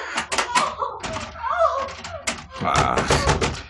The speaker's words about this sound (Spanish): Calimán avanza rápido y deciso a través del solitario pasillo y seguido por Solín, hasta que ambos detienen su marcha frente a una puerta que Calimán empuja moviendo la perilla. ¡Socorro! No, la puerta está cerrada.